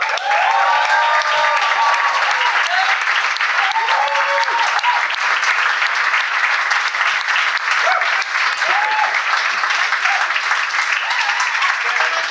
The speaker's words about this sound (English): So we're gonna bring our guests on stage now. and so we're gonna bring all three of them up. So if you can make some lovely applause and stuff for them.